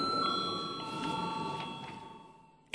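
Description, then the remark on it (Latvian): A steady electric bell rings continuously in a parliament chamber before a vote, a sustained metallic tone holding at even loudness before cutting off abruptly at the end, with no voices present. “Lūdzu zvanu.”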